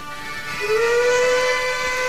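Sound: steam train whistle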